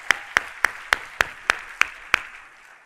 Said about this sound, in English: Let's give them another giant round of applause.